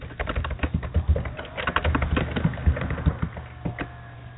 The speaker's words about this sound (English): I can hear a lot of typing.